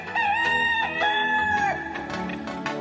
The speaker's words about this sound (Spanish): Estoy muy sorprendida de este gallo porque pensé que ya habíamos tenido. A ver, súbale.